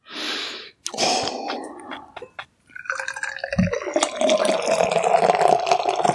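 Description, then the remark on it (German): A beer can cracks open with a short hiss and click, then beer pours steadily into an IPA glass, the gurgling rising in pitch as the glass fills. No one speaks. “Und deshalb sage ich jetzt mal, ich öffne diese Dose, ja, schenke sie in mein IPA-Glas und werde dieses wunderbare Bier mit euch jetzt mal verkosten.”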